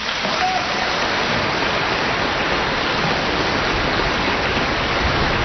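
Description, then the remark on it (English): Sustained applause from a large crowd at a rally, welcoming a minister to the rostrum: a dense, even wash of clapping that holds steady in loudness for several seconds with no voices rising above it. “Please receive him with a round of applause.”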